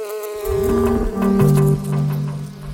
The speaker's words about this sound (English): Hornets will hover backwards and forwards with their eyes focused. And as soon as a bee comes past their sight line, they will aim to grab that bee.